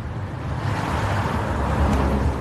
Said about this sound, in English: Near the United Center Arena on Chicago's Near West Side, cars zip down the main streets from the nearby highway.